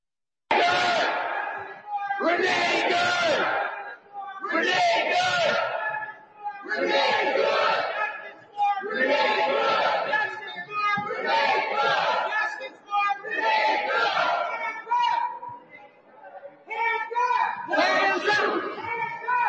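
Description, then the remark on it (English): A crowd of anti-ICE protesters inside a church in St. Paul, Minnesota, shutting down a service, shouts in unison, repeating a loud chant in steady bursts of roughly two seconds, voices overlapping with a rough, raised edge and only brief pauses between phrases. “Anti-ICE mob storms church in St. Paul, Minnesota, and shuts down service.”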